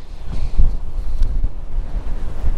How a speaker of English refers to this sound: Wow, this is Storm Gerrit, which is one of those storms that has been battering us for the past half a year, which has been no good.